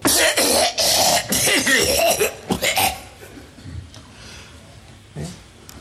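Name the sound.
coughing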